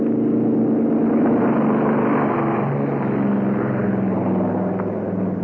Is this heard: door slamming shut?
no